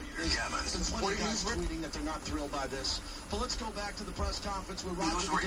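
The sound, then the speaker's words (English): A radio receiver, its signal fed through wires into an amplifier, being tuned between stations, with garbled broadcast voices and a steady wash of static sweeping by continuously at a moderate level. “Let's tune around a little bit and see what we've got.”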